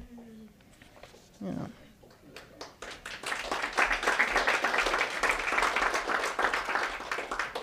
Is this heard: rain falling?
no